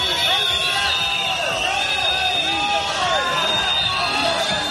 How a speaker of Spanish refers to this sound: Pitos y abucheos contra los de Esquerra durante la ofrenda floral al monumento de Rafael Casanova.